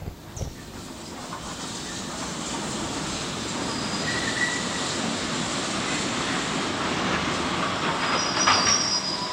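A train rumbles along its rails and brakes hard to a stop, steel wheels squealing in high thin tones over a steady hiss and clatter, loud, with no voices.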